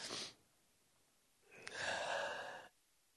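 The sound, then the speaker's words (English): A quick, breathy sniffle, then a pause and a loud nose blow lasting about a second, rough and honking with a buzzy edge before cutting off abruptly. “Goes to running, and so I go to snotting, blowing my nose, falling to pieces.”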